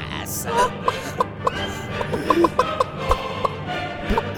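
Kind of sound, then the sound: bird, hen clucking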